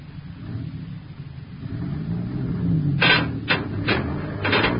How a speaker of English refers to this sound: You tell your driver to pull the truck straight ahead now.